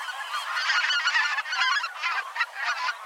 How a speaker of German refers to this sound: Wir haben offensichtlich Gänse. Ja, korrekt. Ich bin immer nicht ganz so firm mit den Gänselauten. Mhm. Die sind relativ hoch, deswegen würde ich jetzt nicht Saat- oder Graugans sagen. Ich wäre vielleicht bei Blässgans.